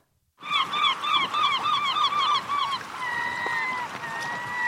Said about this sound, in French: Ok, premier audio. Est-ce qu'on peut écouter les deux et après on... Deuxième. Ah oui, c'est pas du tout la même chose. Non, le premier, c'est la mouette. Ouais, premier mouette.